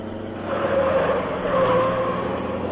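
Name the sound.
car driving at speed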